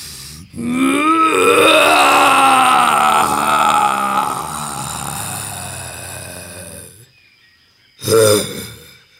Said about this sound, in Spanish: Entonces, el gran jaguar, temblando de coraje, lanzó el más poderoso de sus rugidos.